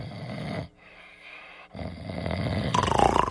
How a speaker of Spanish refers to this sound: roncaba sobre un sillón